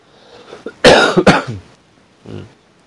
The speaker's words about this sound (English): Hopefully by tomorrow the cough will be gone.